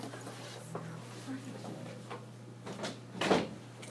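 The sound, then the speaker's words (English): A door swings shut with a single solid thud near the end, preceded by faint shuffling and muffled room murmur over a steady low electrical hum. “I'm gonna close this door and have people come out downstairs.”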